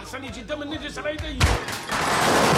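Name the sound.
gunshots fired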